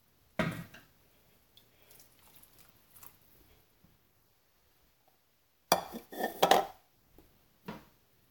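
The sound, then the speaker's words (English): About half a cup of water is poured into a pan of orzo, about 8 minutes into cooking, in a short splashy burst, with clinks and knocks of cookware before and after and quiet stretches between. No one speaks. “So I'm going to add in another half cup of water to see if we can give it something to drink.”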